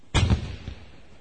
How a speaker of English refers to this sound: A steamboat was on the river about a mile away. The noise was from a big gun on the steamboat.